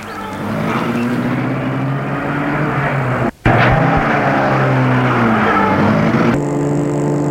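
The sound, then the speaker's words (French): A car engine catches and revs loudly, then pulls away with rising, accelerating engine tones and a brief drop midway like a gear change, as the driver sets off in Savoie, France, along a mountain road toward Chamonix in sunny weather. No one speaks. “Il se met sur le siège arrière et le chauffeur met la voiture en route.”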